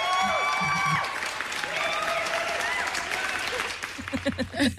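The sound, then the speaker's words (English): A crowd claps steadily in a dense, crackling wash of recorded applause in an intro jingle, mixed with bright sustained musical tones; a voice briefly cuts in near the end. “The good news is bouncing around and everybody's clapping.”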